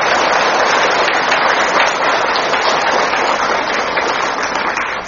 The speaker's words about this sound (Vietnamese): Giờ phút này đạo tràng chúng ta một lần nữa dâng tràng vỗ tay thật lớn để chào đón thầy Pháp Hòa.